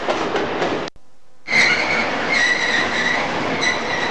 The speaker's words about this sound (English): I'm just pulling up to this signal now. Obviously I've caught up another train.